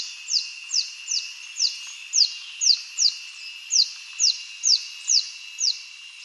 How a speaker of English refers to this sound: I just mentioned the orange-tufted spider hunter. Here's one calling in the Philippines.